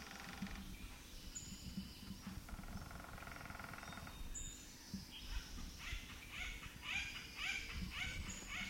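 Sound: acorn woodpecker call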